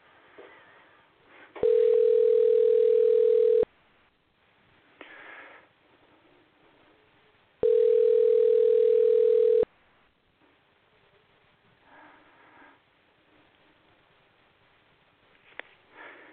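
A telephone call placed during a live radio show fails to go through: the line sounds two long, steady electronic tones, each about two seconds, separated by a four-second gap, with faint hiss and soft breathing noises between them and no answer.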